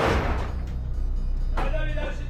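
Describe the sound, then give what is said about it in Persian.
Heavy metal doors of a transit truck swing open in a parking lot, with a sudden clank and a ringing, creaky metallic scrape about halfway through, over a steady low engine rumble. “درهای کامیون باز”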